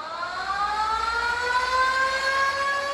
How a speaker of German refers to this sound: Eine Sirene ertönt im Koshien-Stadion in Nishinomiya in der Nähe der japanischen Millionenstadt Osaka. Jedes Jahr am 15. August unterbricht sie um die Mittagszeit die landesweite Baseballmeisterschaft der Oberschulen in Japan.